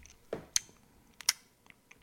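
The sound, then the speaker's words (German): Wet lip-smacking while chewing: a few sharp, moist clicks and smacks spaced irregularly over two seconds, with soft mouth noises between them and no talking. “Und wir haben sehr viel Schmatzen.”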